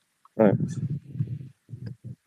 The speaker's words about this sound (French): Donc c'est pour ça que je suis dans un parc et qu'on entend des canards éventuellement.